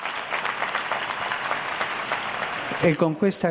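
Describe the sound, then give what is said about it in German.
An audience applauds steadily for Pope Benedict, a dense wash of many hands clapping for about three seconds before a man's voice begins speaking as the clapping fades. “Und jetzt ein Applaus für ihn. Einen starken Applaus.”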